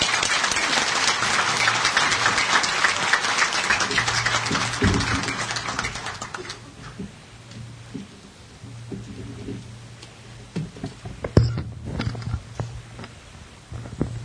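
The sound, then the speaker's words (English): A crowd applauds loudly to welcome the president of TaylorMade Tours Israel, a dense, steady patter of many hands clapping for about six seconds, then it thins out into scattered claps and quieter murmur with a low hum underneath. “Help me welcome her with a round of applause.”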